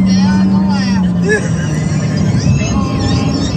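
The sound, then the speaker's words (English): A car engine hums and rises in pitch as the car speeds back up behind a pickup truck so it can be filmed, with steady road and wind noise throughout and muffled voices faintly underneath. “So he has passed this person already, and now he's speeding back up to so he can tape and show you what he's saying.”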